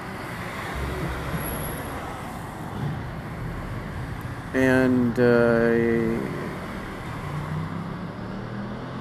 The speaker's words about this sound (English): send in the motorcycle. Yeah, the really loud one.